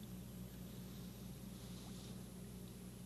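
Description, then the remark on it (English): A suction device draws water and dirt up from along the bottom with a steady, unbroken drone: a low mechanical hum beneath a constant rushing hiss, holding the same level throughout with no voices. “So that's water going up because of the suction.”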